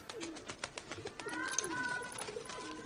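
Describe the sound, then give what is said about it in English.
Ordinary pigeons, dyed by the character Merlin, coo in low, throaty, rolling murmurs in a room during a lunch scene in a film, mixed with light clattering and shuffling noises, with no clear speech over them. “In this scene, Linda, played by Lily James, Fanny, and Dolly Wells, Linda's mother, Sadie, they're all having lunch with Merlin, and his pigeons are in the room as well, as you will hear.”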